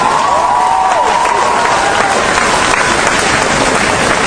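A crowd applauds loudly and steadily, with dense clapping filling the whole stretch; a faint whistle or cheer glides through near the start.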